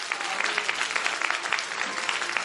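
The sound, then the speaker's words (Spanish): An audience claps steadily, a dense wash of many hands with no pauses and no voices standing out, fairly loud throughout. “¡Un aplauso!”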